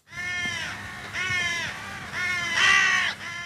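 crows cawing overhead

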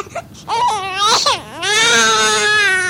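baby crying

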